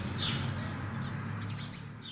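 Several short bird calls chirp over a steady low outdoor rumble, heard from a window, scattered across a couple of seconds, with no one speaking.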